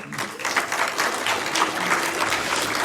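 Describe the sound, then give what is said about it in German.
A room full of people applauds steadily, a dense wash of hand claps at even loudness throughout with no voices standing out. The audience of a sold-out event with more than 120 tickets claps after the host invites them to. “Ja, ihr dürft klatschen, gerne.”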